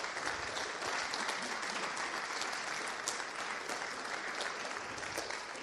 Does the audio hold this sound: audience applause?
yes